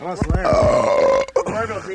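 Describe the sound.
A caller on a radio call-in show lets out a long, loud, voiced burp with a wavering, croaky pitch that rumbles for about a second, breaks off briefly, then trails into a rougher, lower belch.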